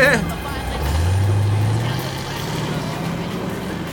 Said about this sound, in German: Fast ein wenig wehmütig sah Peter dem davonfahrenden VW-Bus nach.